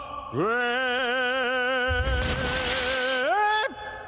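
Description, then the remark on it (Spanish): A loud, sustained sung note with wavering vibrato rises and holds at a hockey rink, and midway its vibrations shatter the glass panes of the booth where two ejected players wait, in a bright, crashing burst that lasts over a second while the singing continues. “Las vibraciones rompen los cristales de la cabina donde aguardan dos jugadores expulsados del juego.”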